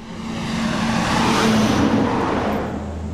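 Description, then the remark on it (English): A heavy coal truck roars past on the road to the foot of Blair Mountain through the little community of Blair, its engine noise rising to a loud peak midway and easing off as it goes by, a deep rumbling drone with broad road noise and no talking. “Coal truck roars to the foot of Blair Mountain through the little community of Blair, or what's left of it.”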